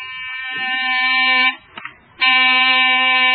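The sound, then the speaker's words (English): A loud electric door buzzer rasps in two long, steady bursts separated by a brief break, its harsh, droning tone holding an even pitch throughout with no one speaking. “There's the dog buzzing. Must be Meredith.”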